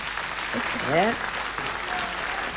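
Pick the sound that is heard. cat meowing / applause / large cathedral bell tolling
applause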